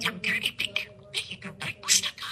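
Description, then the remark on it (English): Mr. Beakey, a blue budgerigar bought from a pet shop in East Gippsland, Australia, chirps and warbles in rapid, scratchy bursts, fairly loud, a busy run of bright chattering notes with brief pauses between them. “Beakey, he's a blue budgie.”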